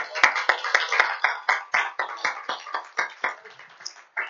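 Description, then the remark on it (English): A church audience claps together in a steady, brisk rhythm, many hands striking at once with crisp beats, giving a hand clap of praise to the Lord, with a murmur of voices blended into the applause. “So I want to give the Lord a hand clap of praise.”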